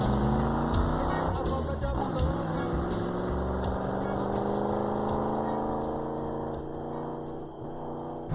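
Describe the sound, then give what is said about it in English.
A pickup truck engine hums steadily as it pulls back onto the road in the dark and drives off, its droning tone shifting slightly and fading a little toward the end. “It pulls back onto the road and disappears into the dark.”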